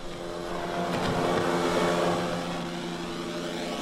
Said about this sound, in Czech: Váš počítač vydává místy zvuk jako průlet helikoptéry. No, jsou vlastně všetky ty věci, co se v něm dějí, co se z elektroniky, z elektronického hlediska týká, tak můžeme počuť.